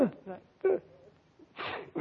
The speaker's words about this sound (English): Pardon me. Hello? Gesundheit. Well, thanks.